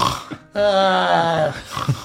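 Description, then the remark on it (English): A voice imitates loud snoring of sleepers camping in a tiny hut: one long, buzzing, rasping snore lasting about a second, with softer breathy vocal sounds before and after it. “You hear Mira, Jurg, the serpents, and Kenna loudly snoring.”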